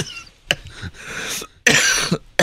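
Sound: coughing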